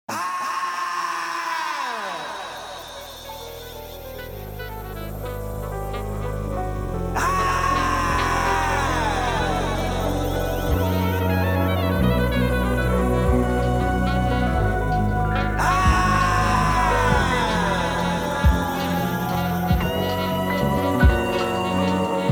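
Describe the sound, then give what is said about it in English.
At the start of a music track, anguished, drawn-out screams erupt several times, each sliding downward in pitch, over a dense musical bed of saxophone flourishes and plucked guitar that plays steadily throughout. “The track begins with an agonizing scream. Beneath the screams, we hear saxophone flourishes”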